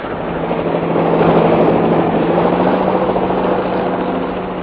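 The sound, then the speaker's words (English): A helicopter drones steadily overhead as it lifts a man up and gains height, its engine a loud, continuous rumble that swells slightly and then holds, with no voices present. “One soggy CID man gaining height, sir. The chopper's taking him up a bit and they're signalling again.”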